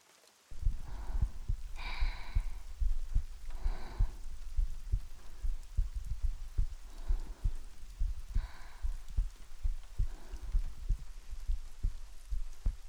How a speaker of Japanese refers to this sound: こうしているとあなたの心臓の音が聞こえます。ドクンドクンって。私のも聞こえていますか？心音って安眠の効果があるみたいなんですよ。